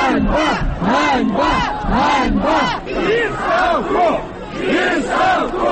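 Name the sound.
protest crowd chanting slogans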